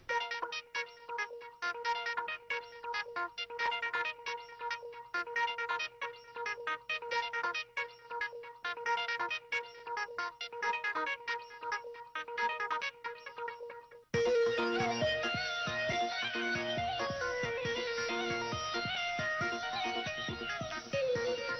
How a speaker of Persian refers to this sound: این موسیقی مخصوص آقای رضی‌آبادی دوباره نواخته شد.